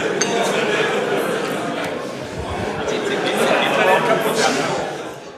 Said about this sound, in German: Internetcafé. Genau, es ist ein Internetcafé.